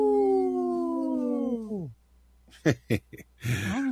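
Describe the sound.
A person imitates a wolf howl with one long, steady note that drops sharply in pitch at the end. After a brief pause, a few short bursts of talking follow.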